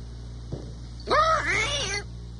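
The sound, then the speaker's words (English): After a soft click, a rusty, unoiled robot cat gives a single drawn-out, squeaky meow that rises and wavers in two strained, loud bursts. “rusty. Should have oiled it. I've told you to oil the cat”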